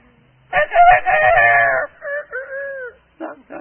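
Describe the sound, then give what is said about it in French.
A man's voice imitates a rooster crowing: one long, loud, strained cock-a-doodle-doo with harmonic wavering, trailing into shorter falling notes and a brief final burst. “Puis, si je suis imitateur d'un coq, qu'est-ce que je ferai?”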